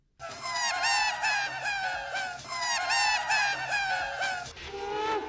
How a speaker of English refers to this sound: Yeah, they used looping. Nobody had done this before, not on a rock record. This one is like the seagull sounding thing that's actually a laughing voice. Check this out.